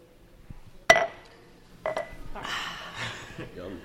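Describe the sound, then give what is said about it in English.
A single bright clink of beer glasses knocking together in a toast at a beer tasting, ringing briefly before fading, followed by a second softer knock and quiet background voices. “Cheers. Prost.”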